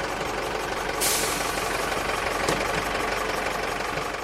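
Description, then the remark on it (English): Heavy diesel engines rumble and idle steadily as school buses from around Leash pull up outside a leisure centre, with a sharp hiss of air brakes about a second in and a brief clunk later. No one speaks. “Outside the leisure centre, school buses from around Leash are pulling up.”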